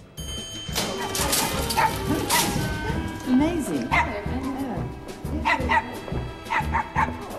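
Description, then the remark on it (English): A small dog, carried by a well-to-do lady exiting a lift into the grand entrance hall of Onslow Mansions, yaps and yips in short, sharp bursts, repeating several times while a person talks over it. “A well-to-do lady exits a lift carrying a dog.”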